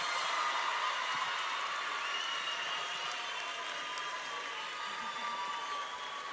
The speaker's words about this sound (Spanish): Denle un aplauso para ella.